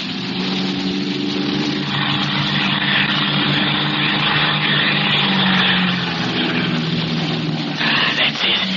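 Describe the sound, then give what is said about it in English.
A propeller airplane engine drones loudly and steadily as the plane, under fire with holes shot in its right wing, goes into a roll: a broad roaring buzz with a low harmonic hum whose pitch shifts slightly, with no voices. “Hey, they're shooting holes in the right wing. Hang on, Skeets. We're going into a roll.”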